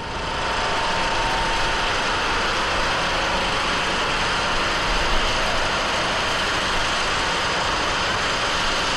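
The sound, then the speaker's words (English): A crane's engine runs steadily as the crane stands ready to release a river into its new channel at a ceremony: a continuous loud mechanical drone with a broad rushing hiss that holds unchanged for the whole stretch, with no voices. “A crane stood ready to release the river, waiting only for the politicians to make their speeches.”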